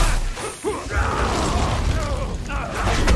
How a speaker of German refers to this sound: Dann eben so. Na gut, mal Feuerball.